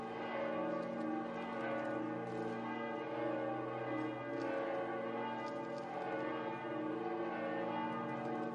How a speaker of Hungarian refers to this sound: I primi passi da pellegrini dell'anno santo, in questa basilica papale dedicata alla Madre di Dio, sono stati accompagnati dal suono dell'antica campana.